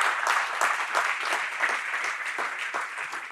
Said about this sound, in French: Une bonne main d'applaudissement pour le Père, le Fils et le Saint-Esprit.